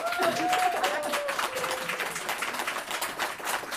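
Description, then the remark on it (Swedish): An audience at an evening event applauds steadily for a few seconds to welcome the guest Gudrun, dense overlapping claps at a fairly even level, with a brief whistle or cheer rising above it near the start. “Och jag tycker att vi kan ge henne en applåd redan nu.”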